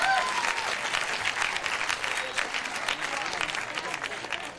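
A live audience of non-smokers claps steadily for several seconds, a dense wash of many hands at moderate volume that holds fairly even before easing slightly at the end, with no one speaking.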